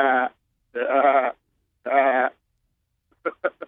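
A billy goat bleats three times in drawn-out, quavering cries with short pauses between, then gives a quick burst of three clipped bleats at the end, fairly loud.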